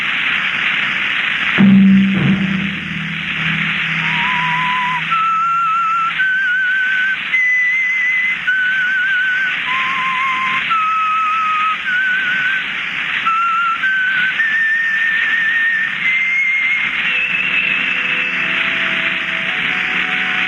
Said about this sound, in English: That whistle be your signal for the Signal Oil program, The Whistler, each Sunday night at the same time.